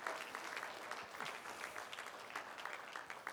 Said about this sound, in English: Give Jesus a good hand clap. Church, stand up with me.